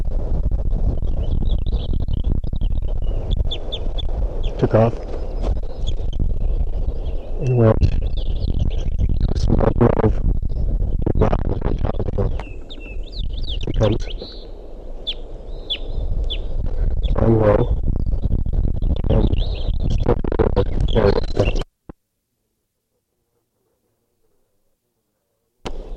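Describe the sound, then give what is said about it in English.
A bird, called a crossbill and thought to be a male, perched in a ponderosa pine on top of a ridge at 10:35 a.m., sings short, high, repeated phrases over a heavy, constant low rumble like wind buffeting a microphone. The noise cuts off abruptly near the end, leaving near silence. “I see the bird. It's, I think, a male perched here in the ponderosa pine.”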